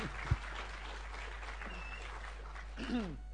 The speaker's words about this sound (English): That's awesome. Yeah, let's clap it. Oh, yeah.